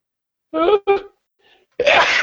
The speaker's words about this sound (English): I'm totally about to sneeze, so hang on.